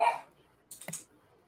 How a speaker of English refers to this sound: A barking dog who's not very happy.